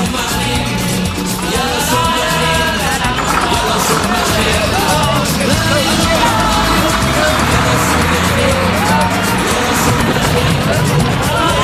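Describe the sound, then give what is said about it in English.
Loud, continuous chatter of a happy crowd fills the whole stretch, many overlapping voices blending into a lively babble with no single speaker standing out. “They are a happy crowd.”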